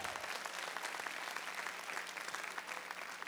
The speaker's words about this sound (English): A couple of weak claps.